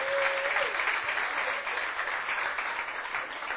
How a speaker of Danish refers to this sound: Ja, hvor er I gode. Ja, I får lige en til her. Ja, skal vi lige klappe af dem?